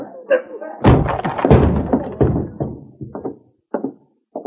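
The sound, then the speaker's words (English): A locked office door is forced open by breaking its lock, with one heavy impact that bursts into a rattling, splintering crash lasting about two seconds, followed by a few scattered knocks and bumps. “Stand over to one side, Ann. I'm going to break this lock.”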